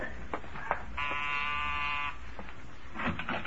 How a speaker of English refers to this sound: Which house is Bob's? The one with the for sale sign. I'll ring the bell.